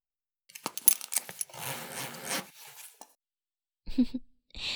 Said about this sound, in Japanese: こちらのチャックを下ろして。